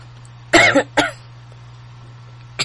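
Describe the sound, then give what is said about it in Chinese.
A woman coughs while explaining the Xun trigram in feng shui: a harsh cough burst, followed quickly by a second shorter cough, then a brief pause and a faint third catch of breath, over a low steady hum. “好，姐姐一讲到巽卦就咳嗽，真是很糟糕的一个状况。”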